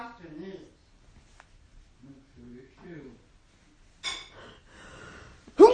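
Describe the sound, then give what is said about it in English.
A sudden, breathy sneeze bursts out, followed moments later by another sharp, noisy exhale, after some quiet murmured speech. “Bless you.”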